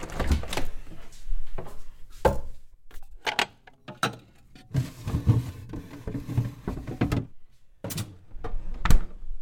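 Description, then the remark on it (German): Someone takes cooking ingredients out of a fridge: a door thumps, then containers and jars clunk and rattle in irregular bursts, with soft rustling between, and no one speaking. “Hol doch mal bitte alle Zutaten aus dem”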